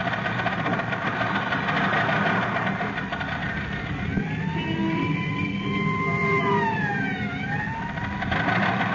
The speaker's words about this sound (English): Yes. This is the Mount George Road. And look, Robin. There goes the ambulance up the mountain.